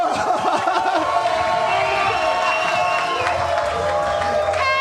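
A crowd applauds and cheers loudly and steadily for about five seconds, a dense wash of clapping with whoops and shouting voices rising through it.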